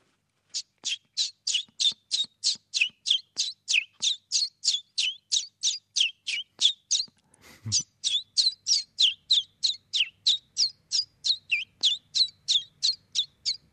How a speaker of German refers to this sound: Sehr schön, ein Zilpzalp? Ja, der ist ganz einfach, der singt wie er heißt.